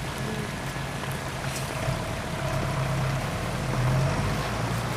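A Land Rover engine runs steadily at idle, a low continuous rumble with a faint hum, over a broad wash of outdoor noise. No one speaks.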